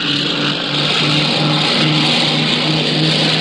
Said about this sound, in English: That's a C-54 roaring into the dawn, recorded on the scene in Denmark.